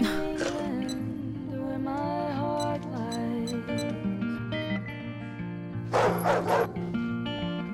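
Dogs bark and yip continuously with high, whiny pitched cries, breaking into louder, sharper bursts of barking near the start and again toward the end. No one speaks.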